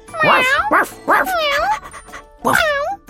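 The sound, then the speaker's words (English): A voice imitates animal sounds: a few short, bouncy dog-like barks followed by drawn-out, sliding meow-like calls, loud and close with brief pauses between them. “The man's dog and cat came to help them.”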